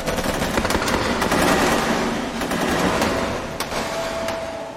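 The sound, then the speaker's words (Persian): Sustained automatic gunfire crackles in dense, rapid bursts, loud and continuous for several seconds, with a few sharper cracks and no voices, as Viet Minh guerrillas fire through the windows of a mess hall at Bien Hoa, 30 km northeast of Saigon, in July 1959. “چریک‌های ویتمین که بی سر و صدا وارد مجتمع شده بودند، از طریق پنجره‌ها آتش گشودند.”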